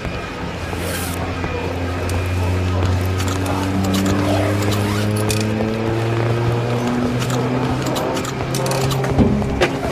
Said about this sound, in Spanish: Con Control Shift E voy a cargar combustible. Presten atención al surtidor.